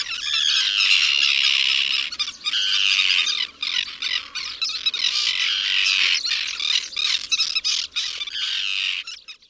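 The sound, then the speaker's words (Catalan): A flock of birds squawks loudly as they fly away, harsh overlapping calls almost without pause filling the whole stretch, with only brief dips in the racket and no voices. “Convertides, altre cop, en ocells, van sortir volant.”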